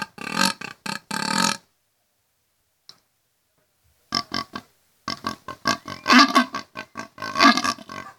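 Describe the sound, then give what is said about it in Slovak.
A person imitates wild boar grunting as a discipline in a game-calling competition: rough, throaty bursts come in choppy series, a quick run of grunts, a pause, then denser, louder rounds of snorting grunts toward the end. “Vrešťanie zajaca a imitovanie hlasu diviačej zvery patria medzi divácky atraktívne.”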